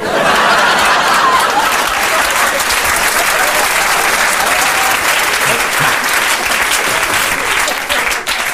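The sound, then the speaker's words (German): Sustained applause from a large audience, a dense, steady wash of many hands clapping at once, loud, holding evenly for several seconds before tapering slightly at the end. “Ja, sie klatschen, aber irgendwo müssen die zwei Drittel ja herkommen.”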